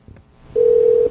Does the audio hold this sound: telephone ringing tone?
yes